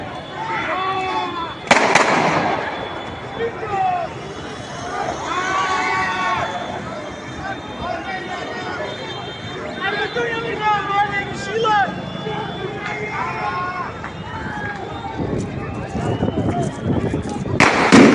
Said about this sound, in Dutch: Maar het vuurwerk blijft vliegen, de stenen blijven vliegen.